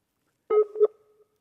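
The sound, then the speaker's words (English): A brief electronic telephone line tone after Richard Dawkins puts down the phone during a call on RTE Radio 1: one steady, buzzy beep lasting about half a second, fairly loud, then trailing off faintly into silence, with no voices. “Did Richard Dawkins just put down the phone?”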